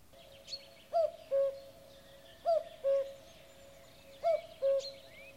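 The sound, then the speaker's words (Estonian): A cuckoo calls its two-note cu-koo three times at a steady, unhurried pace, clear, with faint chirps of other birds in the background. “Kuukuke kui käukene, helgi hella linnukene. Ega sa minule kuuku, sa kuukud korve karjatsele, laulad laane lamburisel, paugud palgi raiu jälle, tiksud teede käijatelle, helgid heina niitijatel, luksud luo voitijatel.”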